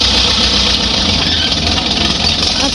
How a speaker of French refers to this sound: C'est quoi ? C'est un tracteur. Un tracteur, bon, c'est d'accord. J'aurais dit une moissonneuse batteuse.